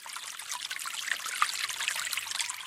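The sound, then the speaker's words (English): Meltwater trickles steadily from melting snow, a soft continuous babble of running water scattered with tiny droplet plinks, fairly quiet, with no voices. “Melting snow.”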